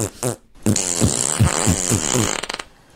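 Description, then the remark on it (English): A loud string of fart noises sputters out in a Morse code rhythm, short, uneven bursts in a stop-start pattern of long and short blasts with no talking over it. “She had throat cancer, so she wasn't able to speak, but she spoke through fart, Morse code fart.”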